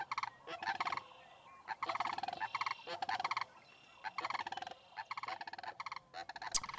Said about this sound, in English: All right, well, the bird sound tells us it's time to transition to another segment.